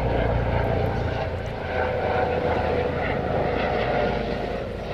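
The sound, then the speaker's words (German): An orange helicopter flies overhead, its loud, steady engine rumble and rotor drone filling the whole stretch without a break. No one speaks. “Auf jeden Fall, jetzt auch noch ein Hubschrauber.”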